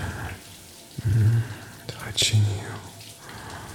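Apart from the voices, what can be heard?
hot shower water running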